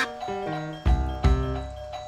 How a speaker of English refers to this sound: Thank you, doorbell. Glad to hear you weigh in on this, too.